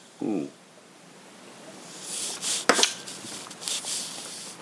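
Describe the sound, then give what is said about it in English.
A small sip of bourbon: a few soft, airy slurping hisses with a light click partway through, after a brief murmured voice at the start. “That was the most baby sip I've ever taken.”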